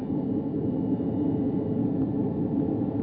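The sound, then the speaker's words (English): A steady, low roar of a jet airplane in flight, Great Silverbird Airlines Flight 707 to Mexico City, a constant rumbling drone that holds an even loudness throughout with no voices. “I can almost feel myself on that jet now.”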